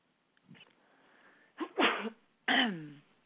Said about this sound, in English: Gesundheit. Bless me.